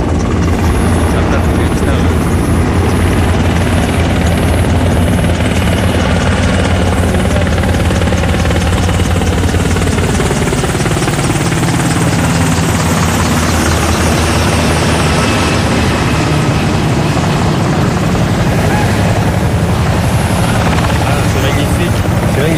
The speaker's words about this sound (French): Parce que l'hélicoptère en se posant éteint le feu et on voit des braises et des étincelles à travers tout le paysage.